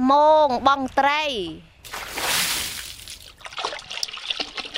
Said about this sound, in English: He goes knee-deep into the water to throw out the net. We fish at high noontime, because that's when the fish swim to the surface and are easy to catch.